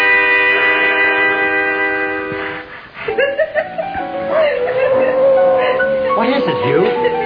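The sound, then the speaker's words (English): A dog howls in long, wavering cries whose pitch slides up and down, breaking into whimpers, fairly loud, after a few seconds of a steady, sustained drone. “Dog out for little or no good.”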